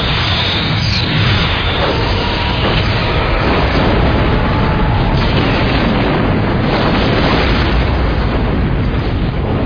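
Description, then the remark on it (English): A loud, continuous barrage of explosive booms and rumbling blasts from weapons fire as a torpedo is fired, dense and sustained for the whole stretch with no voices heard. “Target that explosion and fire.”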